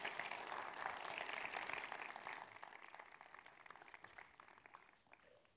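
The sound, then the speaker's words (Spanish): Audience applause given for Jesus, a dense wash of many hands clapping that holds strong for a couple of seconds, then thins and fades to scattered claps. No one speaks over it. “Así que dale un aplauso a Él y gracias por estar aquí.”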